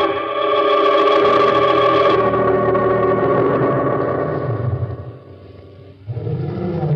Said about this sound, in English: Somewhere in the distance, a lion roared.